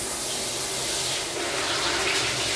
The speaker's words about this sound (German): Unter der Dusche. Wird sich noch ein bisschen eingeseift.